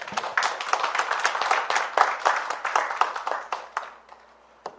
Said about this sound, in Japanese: それではご臨在の主に感謝の拍手をしてまいりましょう。ハレルヤ。